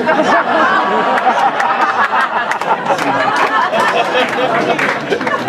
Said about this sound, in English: You applaud now.